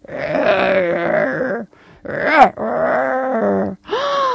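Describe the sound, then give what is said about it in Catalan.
A voice imitates an ogre's growl: several long, rough, guttural bursts with short breaks between them, loud, the last one rising and falling in pitch. “Llavors van sentir una veu que feia...”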